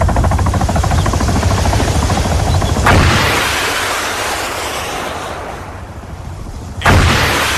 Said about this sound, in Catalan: Aquí el que veiem és un militar de Hamas, suposadament, abatent un helicòpter d'Israel a Gaza amb un llançacoets.